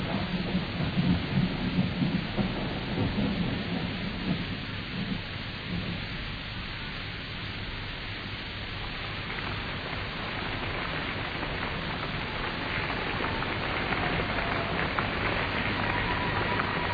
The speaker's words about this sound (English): There's going to be a storm.